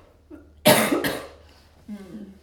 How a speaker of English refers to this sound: I'm actually going to cough. Hold on.